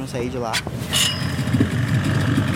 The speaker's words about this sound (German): Im Motorboot geht es über den Fluss, der längst zur Lagune geworden ist, in die Fischersiedlung Ilha da Pintada.